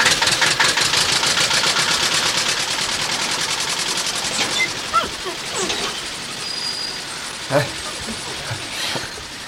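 A tractor engine runs with a rapid, steady chugging pulse, loud and continuous, fading slightly after a few seconds as a few sharper knocks and clatters break through.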